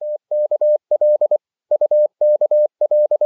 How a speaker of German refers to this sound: Morsezeichen, klar und deutlich, klicken in die Stille. Hier UKL, hier UKL. Zentrale, Zentrale, hier UKL. Hört ihr uns?